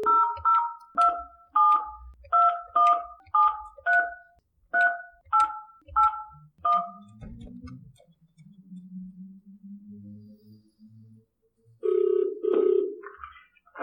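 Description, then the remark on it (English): A rapid series of about a dozen telephone keypad tones as a number is dialed from an auditorium in Vilnius, each a short dual-pitched beep, followed by a low hum and a brief ringing tone on the line. “So let's call Cormac. Yes. So let's see. What's the number?”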